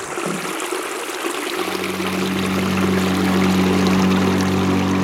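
Steady rushing water of the Caño Chiquito river fills the scene, and after a second or so the low, droning motor of the small metal boat La Tempestad joins in and hums continuously beneath the splashing flow. No one speaks.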